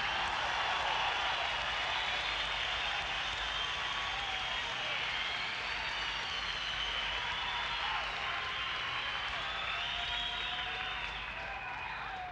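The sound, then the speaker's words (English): A large audience applauds at a live concert, a dense, steady roar of clapping that holds at full strength for about twelve seconds, with faint cheers and whistles mixed in. “No more applause, otherwise we'll want some money.”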